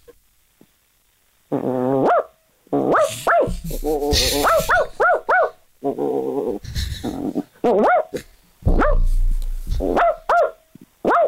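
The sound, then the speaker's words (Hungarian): A person imitates a dog, barking loudly and repeatedly in irregular bursts, some drawn out into howling yelps and growly whines, with short pauses between outbursts and no talking. “Na figyelünk akkor, megpróbáljuk kitálni, hogy milyen kutya.”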